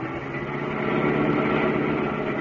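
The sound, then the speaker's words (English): A car engine roars steadily as the car is driven fast along a narrow road, a loud, continuous mid-pitched drone with a rough, buzzing texture that holds constant throughout, with no voices. “Can't you go faster, driver?”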